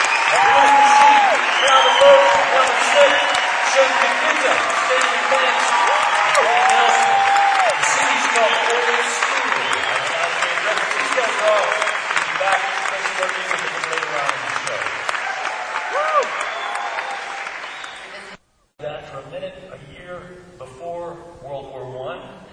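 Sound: audience applause and clapping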